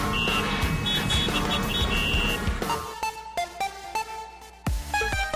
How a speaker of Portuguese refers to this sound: Olha só, o fluxo de veículos no sentido Juazeiro a Petrolina tá bem maior, tá? Movimentação já mais intensa. E já o trânsito mais leve no sentido oposto Petrolina a Juazeiro,